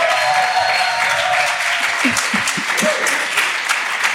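Sustained applause from a live audience at the Prachtwerk in Berlin-Neukölln, a dense steady wash of many hands clapping at even loudness throughout, with a few faint voices and murmurs mixed in.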